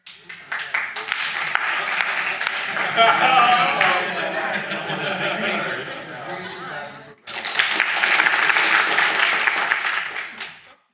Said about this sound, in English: And when I raise both my hands, then we just clap. So the speaker has no choice but to end his presentation, okay?